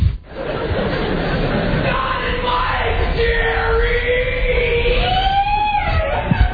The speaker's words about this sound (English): One of our listeners yells, Don and Mike, Jerry.